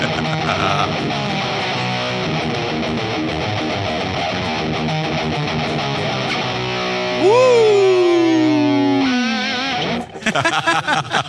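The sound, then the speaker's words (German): A loud, heavily distorted electric guitar riff, played live as a warm-up at a soundcheck, with thick sustained chords, building to a long wailing string bend that swoops downward before the sound cuts off into a few choppy bursts. “dieses Riff zum Aufwärmen spielt, beim Soundcheck.”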